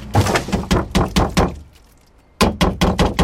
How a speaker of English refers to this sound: take it outside and dump it in the green compost bin next to the trash can on his driveway.